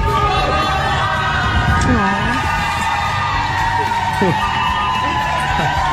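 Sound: crowd clapping and cheering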